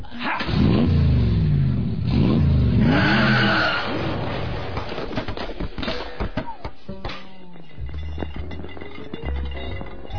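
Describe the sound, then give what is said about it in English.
A car engine revs hard in rising, sweeping bursts as it accelerates, loud, then settles into a rougher, lower rumble with scattered rattles and clunks. “Hey, get out of my car!”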